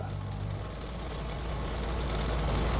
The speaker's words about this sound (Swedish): De susar fram i en bil på landsvägarna genom Finland.